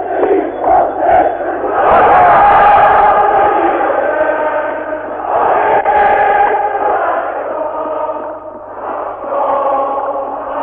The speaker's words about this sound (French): Pendant plus de trois heures, ce ne fut qu'une succession de cris et de chants. L'accès du monument aux morts est maintenant complètement bloqué.